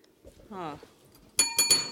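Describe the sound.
A small hand bell inscribed 'ring for sex' rings in three quick, bright jingles, fairly loud and shimmering, right after a short spoken sound from a voice.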